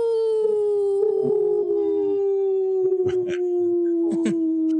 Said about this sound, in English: That was the best howl. Hey, right on.